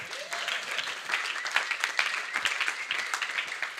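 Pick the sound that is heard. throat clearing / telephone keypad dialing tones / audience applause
audience applause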